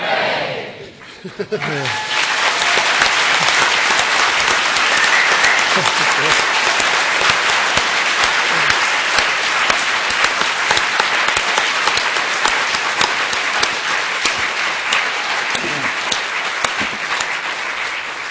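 A large crowd bursts into loud, sustained applause that fills a hall, celebrating the presentation of fully ordained nuns after three cheers. Dense clapping with scattered cheers continues steadily for the whole stretch after a brief vocal shout at the start.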